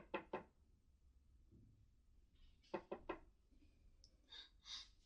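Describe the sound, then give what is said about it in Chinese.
Two quick knocks on a door at around 8 o'clock in the evening, a pause, then three more in a brisk cluster, fairly quiet, with a faint breathy rustle afterward and no talking. “刚刚那个怎么会是敲门声吗？”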